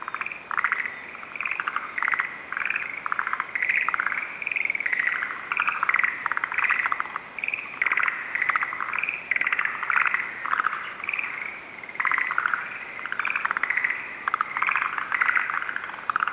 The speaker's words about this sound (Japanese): 未だに外出が困難な状態が続いていますので、私が取りためたフィールドレコーディングの中から、今回はカエルの鳴き声特集をお送りいたします。まずはモリアオガエルをどうぞ。